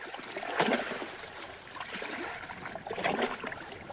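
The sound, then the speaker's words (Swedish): Water splashes and trickles in two broad surges as two people step into kayaks and glide out onto a lake, paddles dipping, moderately loud, with a steady watery wash between strokes and no talking; slightly windy. “De kliver i kajakerna och glider ut i vattnet.”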